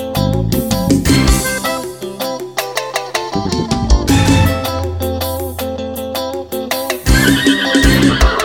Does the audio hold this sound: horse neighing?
yes